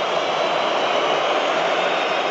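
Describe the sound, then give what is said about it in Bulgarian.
A football stadium crowd in Russia boos and whistles loudly as Beşiktaş player Vida plays the ball, a dense, continuous roar of jeering that holds steady without pause for the whole stretch, with no clear voices standing out. “Именно това е причината за много мощните освирквания, които чувате в момента, след като футболиста на турския Бешикташ играе с топката.”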